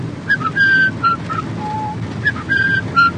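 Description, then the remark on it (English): Someone whistles a short melodic tune, clear, the same brief phrase played twice in a row over a low, steady background rumble. “How shall I know? I'll whistle this tune.”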